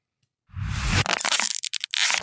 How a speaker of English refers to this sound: Scrunching up a drink bottle like a water bottle.